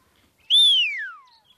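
A farmer gives a single loud, shrill whistle to call back a dog named Marie that is chasing cows. It starts high and glides steadily downward in pitch for just under a second, with no talking around it.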